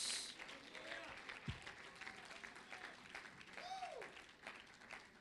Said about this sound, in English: Praise God. Praise God. You may be seated as you're clapping your hands.